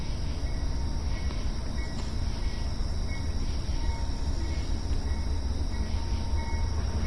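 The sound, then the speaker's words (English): A train rumbles steadily past on the rails, a constant heavy low roar with faint metallic ringing and a high insect-like hiss over it, continuous throughout with no talking. “And there's a train.”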